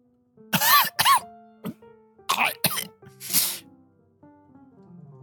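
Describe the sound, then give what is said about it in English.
A rough, choking cough from the character Morgus: about five harsh, strained bursts, some with a hoarse voiced gasp, spread unevenly over a few seconds above a quiet, steady musical tone. “Greater choking sound from Morgus.”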